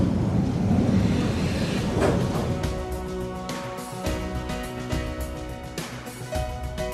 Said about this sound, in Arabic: شوف القطار الآن القادم سيصل بعد دقيقة واحدة أو أقل، هذه الآن الساعة موجودة عندنا مكتوبة 1 minute، دقيقة واحدة. صوت القطار بدأ الآن نسمعه جاي بالموعد.